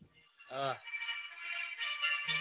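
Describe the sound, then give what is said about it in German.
A phone rings with a steady, warbling electronic tone that holds for a couple of seconds, moderately loud, after a brief vocal sound near the start. “Telefon rein. Kann ich jetzt nicht.”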